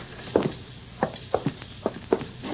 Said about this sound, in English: Walk ahead of me into the house.